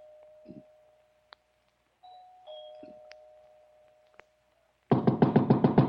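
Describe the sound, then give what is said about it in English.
A doorbell inside a big house rings twice at night with soft, sustained chime tones that slowly fade, followed by a loud burst of rapid, rattling electric bell ringing at the end. No one speaks. “I walked up the front stairs, punched at the doorbell, and heard it ring inside.”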